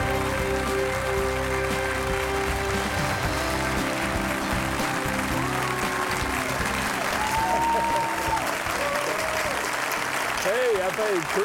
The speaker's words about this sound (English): Thank you. You're so kind. Some of you clapping and smiling. It makes us feel good.